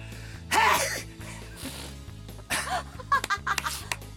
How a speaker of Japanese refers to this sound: それ演技じゃなくて本当のくしゃみですか。 はい。